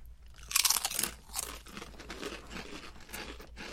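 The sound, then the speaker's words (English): A loud, crisp crunch as Canadian all-dressed potato chips are bitten, followed by a string of softer crackling chews that fade into steady munching. No one speaks. “We'll do a chip cheers. This is the Canadian chip cheers. All-dressed.”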